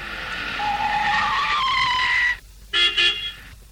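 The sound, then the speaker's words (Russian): A car pulls up outside a house in a town around midnight with a drawn-out squeal of tires, then two short, loud honks of its horn follow after a brief pause. No one speaks. “На сигнал кто-то вышел из дома.”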